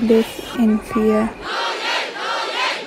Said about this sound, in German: Trotz Kriegsrecht und Versammlungsverbot gehen im ganzen Land immer noch Hunderttausende auf die Straßen. Es ist unsere Aufgabe, skandieren die Demonstranten.